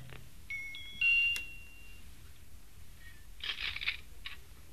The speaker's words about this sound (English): I'm going to ring the bell again.